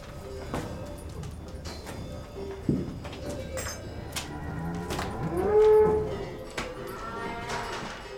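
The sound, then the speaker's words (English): Cows moo inside a farmhouse stable, one long, loud, drawn-out moo rising above others, with scattered knocks and clatters of livestock shifting around in the background. “In these stables, there used to be kept cows, mules, and sheep.”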